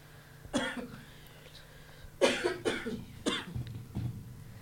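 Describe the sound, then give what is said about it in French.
Four harsh coughs from one person, caused by the heat in the control room rather than Covid: a single cough, a pause, then three in quick succession, with a faint low hum underneath. “là je suis en train de tousser.”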